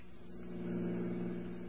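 vehicle, car engine revving

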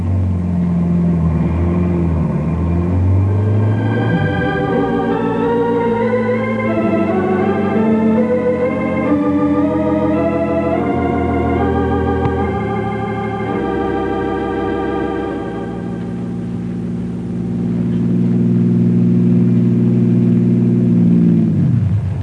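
vehicle, car driving and accelerating

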